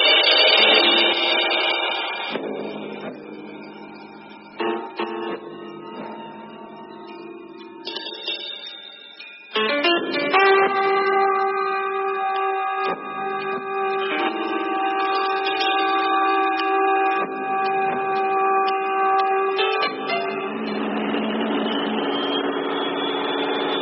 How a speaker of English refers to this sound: Sound of an ordinary jet, developed from the Pratt Whitney original, of course, during the last years of war.